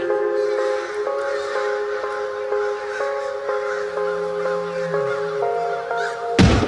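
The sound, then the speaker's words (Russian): A flock of crows caws in a steady, overlapping chorus, harsh calls repeating in quick succession and fairly loud, with no voices, ending in a brief burst of noise. “Каркала стая, как будто в насмешку над этим исходом сражений стандартным.”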